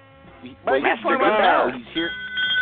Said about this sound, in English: I found my bell.